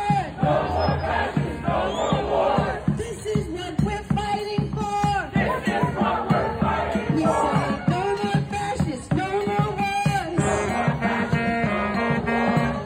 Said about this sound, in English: This is another video of the same exact crowd marching through the streets of Philly with all of their signs.